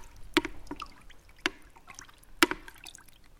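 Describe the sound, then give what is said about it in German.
Oars dip into the sea as friends paddle a rowing boat as hard as they can on a very warm day, in a steady rhythm, three crisp splashing strokes about a second apart, with soft sloshing and dripping between them, with no voices. “Und so sitzen sie wenige Minuten später in einem Boot und paddeln, was das Zeug hält.”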